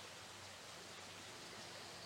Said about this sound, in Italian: Fra le tante dimensioni in cui viviamo, in cui il nostro essere, la nostra esistenza s'allunga e si distende, c'è anche un torrente d'acqua che scorre limpido e fresco.